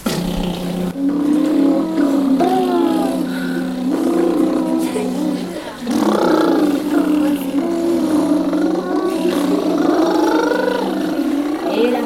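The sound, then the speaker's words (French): A voice buzzes its lips in a continuous lip trill to imitate a little car engine, as a vocal warm-up exercise to wake up the voice and lips. The pitch rises and falls like revving, with a brief pause midway before a second long run. “On va commencer par faire les petites voitures.”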